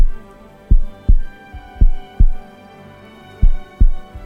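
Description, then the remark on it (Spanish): A heartbeat sound effect: deep, muffled lub-dub thumps in three steady double beats, fairly loud over a soft sustained hum, with no voices. “Mírale a los ojos y observando su alma, escucha los latidos de su corazón.”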